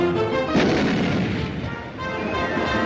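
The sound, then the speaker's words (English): A loud cartoon cannon blast booms out as Daffy Duck is shot out of a cannon by a Nazi in a Daffy Duck cartoon, followed by a sustained roaring rumble that fills the rest of the moment, with a musical score playing underneath. “Shot out of a cannon.”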